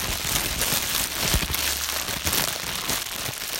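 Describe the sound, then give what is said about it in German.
A wood stove crackles steadily, with dense, irregular pops and snaps over a soft hiss of burning and a low rumble underneath, with no voices. “Man konnte den Ofen knistern hören.”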